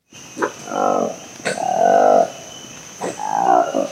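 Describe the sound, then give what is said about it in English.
A newly discovered monkey species with orange lips and a long black tail gives three harsh, croaking calls in a steady rhythm, each a low, buzzy, frog-like rasp with a sharp onset, loud over a faint constant hiss. “What animal has orange lips, a long black tail, and croaks like a frog?”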